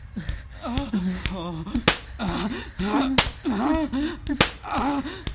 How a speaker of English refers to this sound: Does my little demon enjoy their ass being slapped?